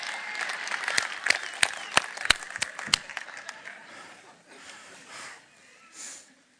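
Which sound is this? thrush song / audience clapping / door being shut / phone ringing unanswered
audience clapping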